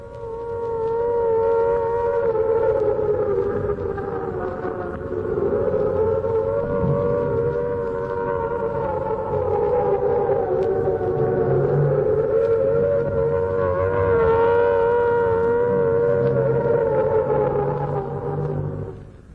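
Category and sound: signal or alarm, air raid sirens wailing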